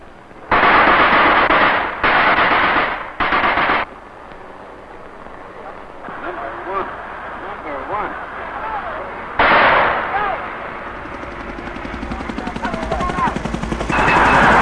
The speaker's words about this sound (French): Sur le terrain, les combats font rage. En voici des images prises en pleine action lors du récent assaut lancé par les Marines contre le village de Diabin.